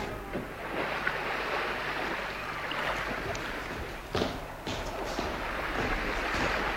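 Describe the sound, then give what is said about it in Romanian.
Steady wash of ocean waves surging against a ship, heard on its deck near a shore with lights, a broad continuous rush with occasional louder splashes, loud with no voices present. “Iată-ne pe punte. Vedeți luminile de pe țărmă?”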